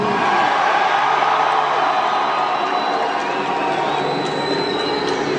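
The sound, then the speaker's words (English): A concert crowd in San Antonio roars and cheers in a loud, continuous wash of noise that holds steady for several seconds without a break, with no single voice standing out. “Everybody says that the San Antonio crowd is always so wild.”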